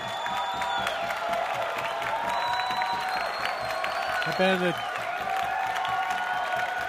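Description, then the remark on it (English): A sold-out concert crowd applauds and cheers in a dense, steady roar, with a brief whoop rising above it midway, while a voice talks over the noise. “Sold out crowd. Loving every minute.”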